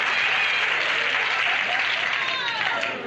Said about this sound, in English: The audience is applauding because he's getting what's coming to him. It's fun to watch.